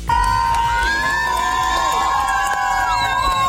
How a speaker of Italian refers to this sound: Questa l'esultanza della folla fuori dal tribunale di Avignone, i cui giudici hanno dichiarato Dominique Pellicò colpevole degli stupri aggravati contro l'ex moglie Giselle, condannandolo alla pena massima, 20 anni di reclusione.